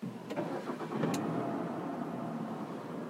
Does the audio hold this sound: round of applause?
no